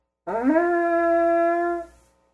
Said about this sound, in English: On the morning of the first day of the festival, the people gather together at the Temple Mount. One of the priests raises a horn, a trumpet, and blows.